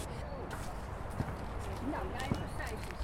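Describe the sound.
Footsteps tap at an unhurried pace on a hard outdoor surface as two people walk to a jeu de boules (pétanque) court, with faint background murmur of voices and ambient noise around them.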